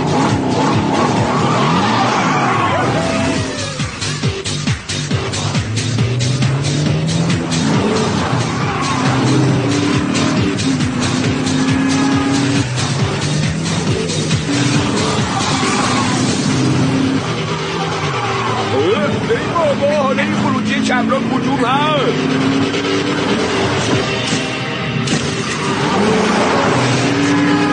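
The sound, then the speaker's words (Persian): A borrowed car speeds hard with its engine roaring and rising, tires skidding and squealing repeatedly throughout, loud, with voices shouting underneath. “این ماشین امانته، اگه به فناش بدی آقا جون امانه میکشه. تو رو خدا یواشتر”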